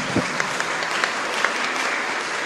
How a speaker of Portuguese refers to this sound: Vem cá, Ângela, uma salva de palmas.